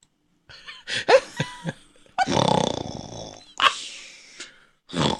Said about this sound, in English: No. She's well away there. She is well away. Little doggy snores.